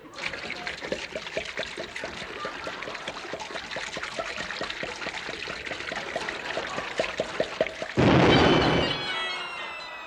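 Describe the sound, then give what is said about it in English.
Whisky glugs steadily out of a bottle in quick rhythmic pulses, moderately loud, ending in a brief, louder rushing splash as the pour finishes. “Have a wee drop of Reg Agony whiskey. Aye, aye, aye, aye. Pour it down my throat, lad.”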